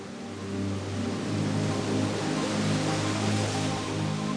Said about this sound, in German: In der Stimmung am Strand fühlst du dich geborgen und sicher. Das Plätschern der Wellen schenkt dir immer mehr Ruhe.